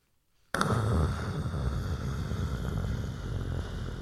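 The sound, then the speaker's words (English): After a brief silence, a rain sound effect bursts in abruptly as a dense, steady hiss with a heavy low rumble underneath, staying loud and unbroken until the end. “Give me a sound effect of rain.”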